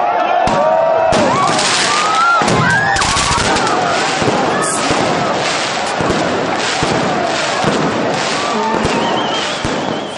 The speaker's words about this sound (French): J'ai enregistré, en fait, lorsqu'on a commencé à lancer des feux d'artifice.